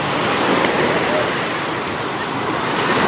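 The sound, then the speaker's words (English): Ocean surf washes onto a beach in a loud, steady roar, a dense hissing rush that holds constant without distinct individual wave breaks. “Still, every morning, bird tracks in the sand, the sun beams generously, and waves sparkle invitingly out to the horizon.”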